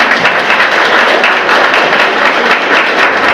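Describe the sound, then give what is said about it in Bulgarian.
A crowd applauds steadily for the author of a photo exhibition marking 160 years since the birth of Prince Alexander I Battenberg, a dense wash of many hands clapping at an even loudness without pause for the whole stretch, with no voices breaking through. “Да го поздравим с нашите аплодисменти.”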